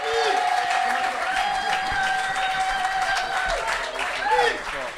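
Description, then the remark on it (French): An audience in Amiens applauds loudly and steadily for about five seconds as a poet arrives on stage, a dense wash of clapping with cheering voices and whoops mixed through it. “on l'applaudit très très très très très très fort.”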